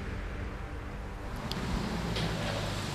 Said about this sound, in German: Mehr Verkehr wie gedacht hier.